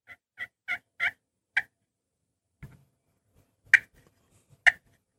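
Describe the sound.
A turkey call named Margaret, used for turkey hunting, mimics an excited hen: five quick, sharp yelps in a rising series, a soft low knock, then two more loud, clipped notes spaced apart, clear with no talking.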